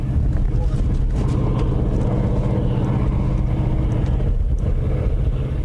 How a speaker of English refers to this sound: The Empire Mine has been in operation for a half century and now goes down more than 1,200 feet. From an observation plateau, huge ore-hauling trucks near the bottom of the mine look small and only create a small roar.